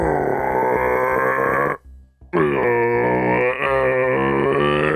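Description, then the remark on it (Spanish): Grison imitates a red deer's rutting bellow in an imitation contest: two long, loud, throaty roars with a rough, harmonic-rich grunting tone, separated by a short pause. “Empecemos por el primero, la berrea del ciervo.”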